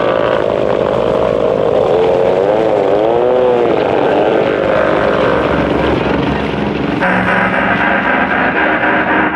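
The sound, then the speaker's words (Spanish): A large speedboat engine roars loudly and steadily on the sea, its pitch rising and falling as it tears past Calimán's boat at tremendous speed, raising waves and foam, with a constant wash of noise and no pause throughout. “La segunda lancha tiene dimensiones mayores y configuración extraña. Sobre todo, su tremenda velocidad.”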